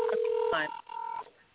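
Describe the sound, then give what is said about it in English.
Telephone dialing and ringing tones over a thin phone line as a call is placed to someone who wants to listen to the show: a steady low beep, a quick warbling burst, then a higher sustained tone that fades out. No one is talking. “You're going to hear the phone ringing, but just keep talking.”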